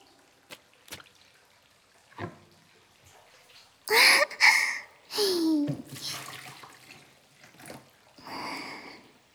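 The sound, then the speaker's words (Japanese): Hot water sloshes and splashes in a small washbasin, a few distinct bursts of movement with drips and trickles in between, moderately loud, with no talking; much of the water has been splashed out. “動かしすぎちゃったけ、洗面器ずいぶんお湯が少なくなっちゃったとね。”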